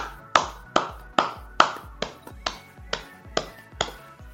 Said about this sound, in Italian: Direi comunque di fare un super applauso ai nostri spettatori per averci accompagnato fino all'una e mezza, e quindi grazie veramente a tutti voi.